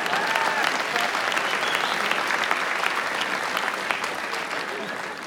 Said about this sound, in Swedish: Nej, då blir det jag. Vi kan ta en applåd.